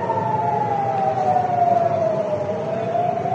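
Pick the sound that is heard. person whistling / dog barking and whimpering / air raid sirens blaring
air raid sirens blaring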